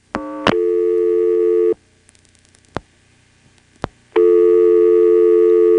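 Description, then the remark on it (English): A steady telephone dial tone on a post-pay coin phone line through a processor-controlled switch drones for over a second, cuts off into near silence broken by a few sharp line clicks as 71 is dialed, then a second dial tone returns, loud and continuous. “A second dial tone.”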